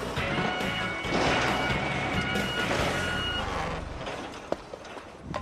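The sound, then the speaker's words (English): A large diesel semi truck rumbles as it backs up to hook up its trailer, the fifth wheel hooking to the kingpin, with steady engine noise and tonal reversing beeps, followed by a few sharp metallic clunks near the end. “First, we hook up our trailer. They call this the fifth wheel. And it hooks up to the kingpin.”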